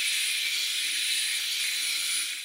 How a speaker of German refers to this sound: also quasi Schwinggebilde, die sich ein kleines bisschen bewegen, tausende Mal pro Sekunde, und damit eben diesen Ultraschall in diese Zement-Wasser-Mischung reingeben. In einem Film über Sonocret wird das vorgeführt und klingt so.